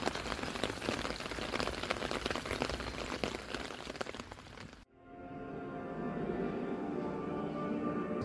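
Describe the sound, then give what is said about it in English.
Steady rain pours down with a dense patter for about five seconds in Bruges, then cuts off abruptly into a quieter, hollow indoor hum inside a church. “And it's also very difficult to take selfies while actually keeping the rain off you.”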